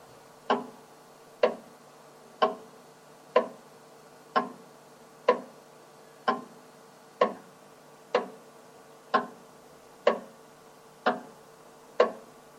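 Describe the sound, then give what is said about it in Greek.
A wall clock hanging on the wall ticks steadily, one sharp click roughly every second, about thirteen in all, clear with no voices. “Θα θέλαμε να πάρω μια συνέντευξη από το ρολόι σας. Ναι, το κρεμασμένο ρολόι στον τοίχο.”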